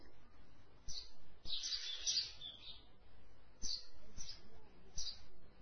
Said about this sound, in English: Not even a leaf moving. The birds are singing. The whole universe is still and yet a song.